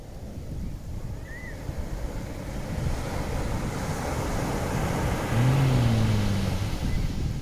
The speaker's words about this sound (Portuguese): Eu diria que isto é as ondas do mar.